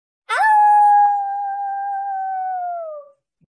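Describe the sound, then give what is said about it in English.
A single long, wolf-like howl done by a human voice, rising quickly, then holding a steady, clear tone for nearly three seconds before sagging downward and cutting off. It is loud and alone. “If no one can see me as anything but a big bad wolf that huffs and puffs and blows houses down when I roar. Howl? Right, howl. Then that's what I'll be.”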